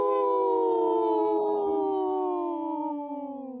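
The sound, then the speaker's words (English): People's voices imitate a wolf howl on the radio show Native Roots Radio Presents I'm Awake, in one long, loud, sustained wail that holds steady, then slowly slides downward in pitch and fades slightly at the end. “Wow, that was the best howl we've had in a long time”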